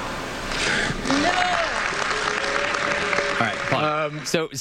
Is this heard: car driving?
no